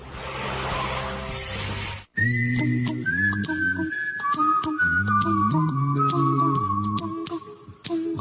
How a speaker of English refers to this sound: The old dog whistle. There we go.